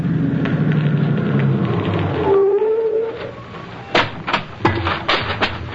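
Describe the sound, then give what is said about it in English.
A car comes up the road with a steady low engine rumble and a brief rising whine, followed by a few sharp clunks near the end. No one speaks. “Mr. Keene, there's a car coming up the road.”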